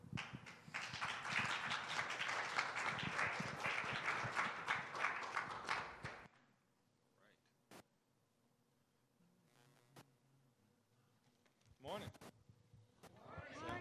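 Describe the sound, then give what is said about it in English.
An audience applauds as a speaker walks up to the stage, a loud, dense patter of many clapping hands for about six seconds, then it cuts off abruptly into near quiet broken by a few faint clicks and brief rustles. “I was hoping if I took my time getting here that you guys just continue to applaud until I got to the stage.”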